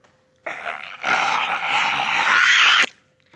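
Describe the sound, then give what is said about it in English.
A harsh, raspy growling noise, apparently coming from bananas a man in India was about to pick up and buy, rumbles for a couple of seconds, beginning softer and swelling louder after a moment before cutting off abruptly. No one speaks. “So there was a video from India where a man was going to buy some bananas, but just when he went to go pick them up, we hear a growling noise, apparently from the bananas.”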